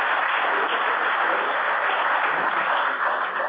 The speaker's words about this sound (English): Chris Alex has done a great job on putting that website together, and owe him a great hand of, a round of applause, too, because I think he's done, really done a great job, too.